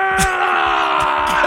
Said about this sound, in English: That's literally a guy yelling.